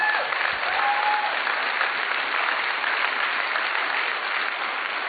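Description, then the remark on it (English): An audience applauds steadily for several seconds, a dense, even wash of many hands clapping at once, fairly loud and sustained with no voices standing out. “Clap. Praise the Lord.”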